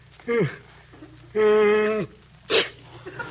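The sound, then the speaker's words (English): A loud sneeze with a drawn-out wind-up: a short gasp, then a long sustained voiced "ahh" before a sharp, breathy burst at the end. “you sneezed.”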